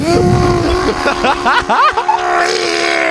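A chainsaw drones steadily and loudly, its buzzing engine tone swooping up and down in pitch as it revs in the middle before settling back to a steady whine.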